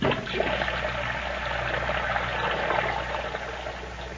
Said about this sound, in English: turns the water on full blast as she snips the stems of her flowers with unusual vigor.